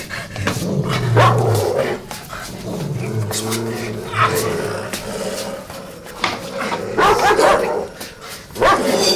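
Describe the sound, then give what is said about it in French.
Several dogs bark and snarl in a noisy, overlapping scuffle lasting the whole clip, with low growls rumbling underneath and sharp yelps breaking through, while a person's voice is heard amid the commotion. “Couchez les chiens.”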